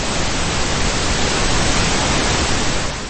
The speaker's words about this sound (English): And this is an example of pink noise.